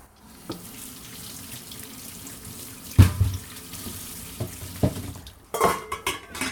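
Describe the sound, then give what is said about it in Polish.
A kitchen tap runs steadily into a sink as chopped soup vegetables, including celery, are rinsed beneath it, with occasional soft knocks and splashes from handling and no one talking. “Opłuczemy warzywa.”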